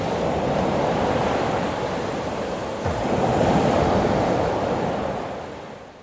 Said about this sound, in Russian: Но вот простирает Посейдон свой трезубец над волнами, и они успокаиваются. Стихает буря, и снова спокойно море. Лишь еле слышно плещется оно у берега, синее, беспредельное.